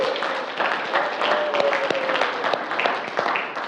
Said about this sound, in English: I thought it would be appropriate to take just a quick second here and appreciate those in our church who put in hours and hours every week to lead us in worship at Calvary. Like, could we clap for them?